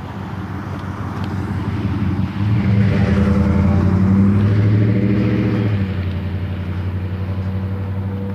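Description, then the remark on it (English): Loud car engines rumble steadily as traffic passes at a street corner, with a deep droning hum that swells a couple of seconds in and stays heavy. No one speaks. “Cars everywhere at this corner.”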